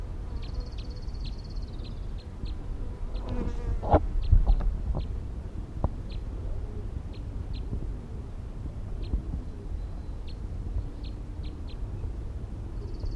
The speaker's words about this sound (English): Recording, it's 104. The wild bird is still here. 5-9 sitting here, calling a little bit.